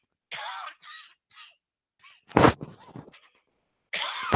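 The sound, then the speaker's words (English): A run of raspy coughs from someone with a cold: three quick hacking bursts, then a sharp, heavy cough with a throaty rattle trailing off, and a final harsh cough after a short pause. “My travels over the past 2 weeks picked up a bit of a cough, shall I say, a cold on the way over.”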